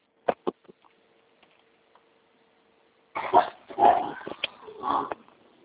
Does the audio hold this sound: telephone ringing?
no